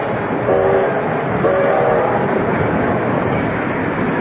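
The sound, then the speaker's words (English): A passenger train slowing down in the desolate Midwestern darkness rumbles loudly and steadily, with two short horn blasts sounding early on over the constant roar of the wheels and cars. “And a passenger train starts to slow down.”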